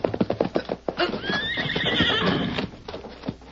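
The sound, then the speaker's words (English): A quick run of hoofbeats clip-clops at the start, then a horse stumbles and falls, letting out a loud, wavering whinny that trails off, followed by a few final hoof thuds. “Suddenly, he saw his quarry's horse stumble and fall.”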